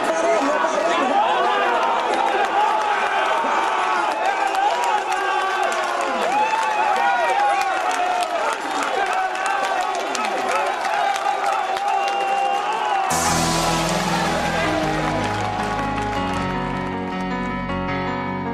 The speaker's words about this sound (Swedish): Och det jubel som ju kom där i sista svängen.